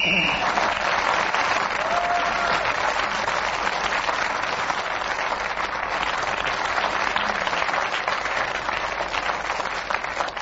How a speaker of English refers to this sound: Well, there's no racket like Just a Minute, and when the audience here make a racket like they did, we know that we are winning, and we do hope you've enjoyed yourself.